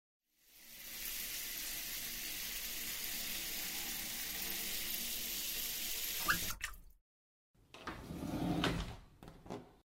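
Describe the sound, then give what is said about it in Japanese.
Steady hiss of running shower water pours for several seconds, then cuts off abruptly; after a short silence, water splashes again unevenly with a few knocks and clatters. “それじゃ、先にシャワー浴びてきちゃってね。”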